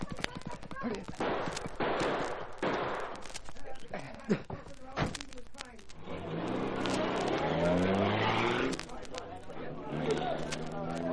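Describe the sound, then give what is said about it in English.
A car engine revs up and roars off, its pitch climbing and then dropping away, after a burst of sharp cracks and scuffling noises that sound like gunfire. “Time for us to leave, Cato. Run for the car.”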